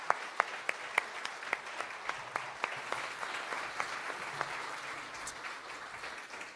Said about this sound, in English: And if we could, I would just like to give them a round of applause and thank them for all that they do.